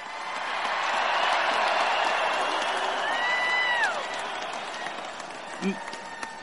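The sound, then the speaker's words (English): A crowd at a championship parade applauds and cheers the Super Bowl IV team in a steady, dense wash of clapping that swells early and fades slightly toward the end, with a few rising whistles cutting through midway. “Let's give the Super Bowl IV team a round of applause.”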